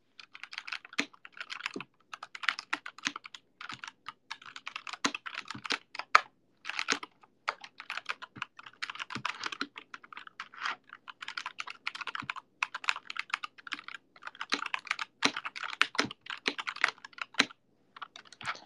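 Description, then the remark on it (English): Steady, continuous typing on an AN Pro 2 mechanical keyboard with Cherry MX Brown tactile switches, a dense run of crisp clacks and key taps, fairly loud, with no voices. “I have another keyboard here, which used to be my main keyboard. The AN Pro 2, and it has brown, Cherry MX brown switches.”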